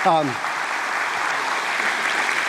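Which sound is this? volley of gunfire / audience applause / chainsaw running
audience applause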